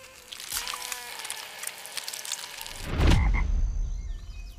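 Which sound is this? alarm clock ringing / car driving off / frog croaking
frog croaking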